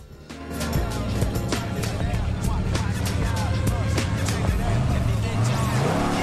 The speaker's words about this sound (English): The car roars off. Now it drives by a busy high school whose grounds are packed with students on the way to school.